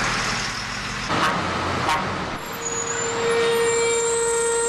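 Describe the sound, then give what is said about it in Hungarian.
Heavy trucks, 15 to 20 per minute, rumble past on the busy concrete Hungária körút ring road, a continuous loud roar of engines and tires with a brief hiss and a rising tonal whine as vehicles pass. “Most még rengeteg, percenként 15-20 kamion dübörög végig itt a Hungária körúton.”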